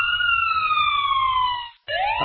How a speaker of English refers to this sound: Can we hear that siren again? When you hear that.